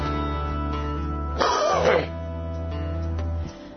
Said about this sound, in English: Sorry for the coughing.